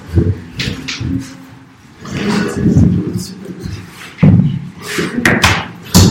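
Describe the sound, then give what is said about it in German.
A chair scrapes and shuffles across a hard floor, with several heavy thuds as it is bumped and set down, and faint voices in the background. “Da brauchen wir aber noch einen Stuhl.”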